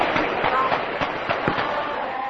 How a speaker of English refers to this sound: Young Karen sing the movement's anthem, and gunfire is heard from the nearby jungles.